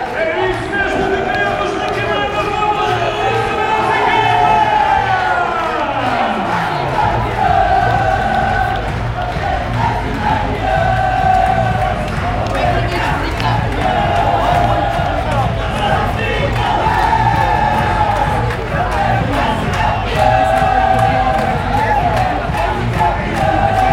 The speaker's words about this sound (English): I hope you can hear the entrance of the Racing Power fans making their voices heard. Love it.